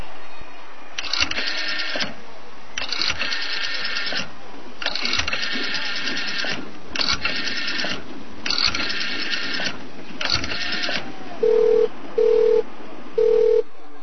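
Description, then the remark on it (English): A telephone being dialed: six buzzy, whirring bursts with short pauses between them, followed by three short, steady electronic beeps. Nobody speaks. “Where my phone?”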